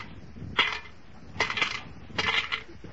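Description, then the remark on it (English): Coins totaling 40 cents drop into a collection kitty in three separate bursts, each a bright metallic clink and jingle, the second and third rattling on a little longer. No one speaks. “But, Miss Brooks, I only asked for 30 cents. You put 40 in the kitty.”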